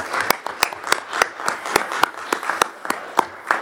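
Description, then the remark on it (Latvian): A small group of council deputies applauds steadily after a vote appointing a new executive director, with several sharp, distinct claps standing out in a fairly even rhythm over a softer bed of clapping, moderately loud, with no talking. “Tā kā visu deputātu vārdu arī mēs ar aplausiem šodien sveicam tevi rīt ar ziedienu.”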